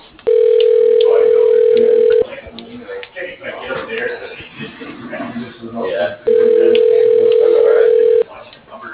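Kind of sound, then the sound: signal or alarm, telephone ringing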